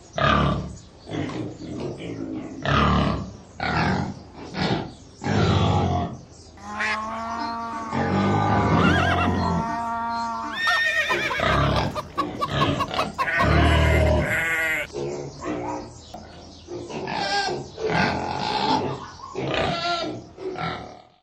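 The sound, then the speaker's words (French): A pig grunts in a quick run of loud, rough bursts, breaking midway into longer high, wavering squeals and bleat-like cries before the choppy grunting returns. No one speaks. “C'est un cochon végétarien qui pond des avocats bien verts.”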